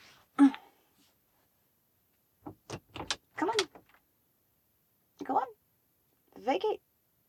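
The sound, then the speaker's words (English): A door struggles to open, giving off a quick series of clunks and rattling bursts, then two longer mechanical groans after a pause, moderately loud. “Yes, the door's trying to open.”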